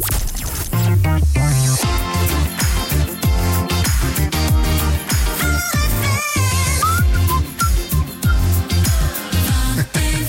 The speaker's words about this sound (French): Et ce petit jingle, vous avez la possibilité maintenant du côté de Troyes de l'entendre. Et de le siffler, comme moi. Et de le siffler, de profiter.